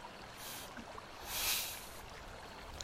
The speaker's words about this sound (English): Oh! You're gonna stand up, are you? Just like that. You should warn a girl before you go splashing about in such a manner.